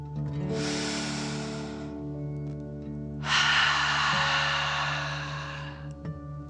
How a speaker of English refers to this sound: Before we begin our story, let's relax by taking 3 deep dragon breaths. Breathe in through your nose, filling up your belly, and then out through your mouth, pretending you are breathing fire. Ready? Deep breath in and out.